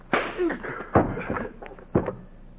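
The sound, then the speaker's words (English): Three heavy punching thuds land about a second apart, loud and sharp, the blows of a man being knocked down, with faint muffled vocal sounds between them. “Jack, you didn't move. I knocked you down.”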